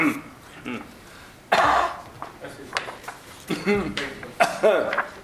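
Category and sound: human body sound, coughing and throat clearing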